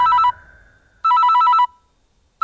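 A telephone rings in loud, bright electronic bursts, a short trill, a pause, then a longer trill of rapid pulses, with the next ring just starting at the end. No one speaks.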